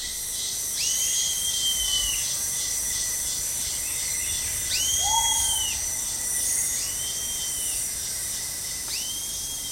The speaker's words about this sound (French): Et au milieu de ce concert, le Lernaeca, un tout petit grillon d'un centimètre et demi dans la couleur, semblable aux feuilles mortes, lui permet de se fondre dans son environnement. C'est à son chant qu'on peut le repérer.